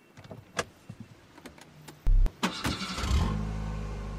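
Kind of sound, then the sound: vehicle, car engine starting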